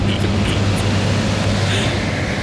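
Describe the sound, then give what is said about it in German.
A powerful wind machine roars, turned up beyond setting 1 to a higher setting, a steady, dense rush of blowing air with a low motor hum underneath, loud and constant throughout with no voices. “Ich glaube, ich muss gegen den Wind anschreien. Also das Ding hat ordentlich Power und wartet nur darauf, jedem, der Bock hat, eine Abkühlung zu verschaffen.”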